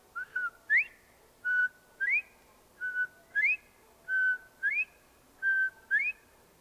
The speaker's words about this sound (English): And late in the evening, along the pasture, you can see and hear the bobwhite quail.